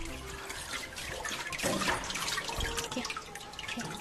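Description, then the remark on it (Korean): Water sloshes and drips continuously as a wooden papermaking frame holding a bamboo screen is gently rocked up and down and side to side in a vat of pulp so the fibres do not clump, with steady splashing and trickling throughout and no voices. “어느 한 곳 뭉치지 않도록 나무틀을 위아래 좌우로 살살살 흔들어줍니다.”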